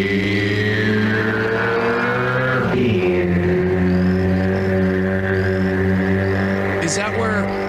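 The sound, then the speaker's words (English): A motorcycle engine in a beer commercial drones loudly and steadily, then drops pitch as it shifts gears partway through and keeps revving, with a brief higher whine near the end. “I think it might be referencing that Rainier Beer, which is like a motorcycle.”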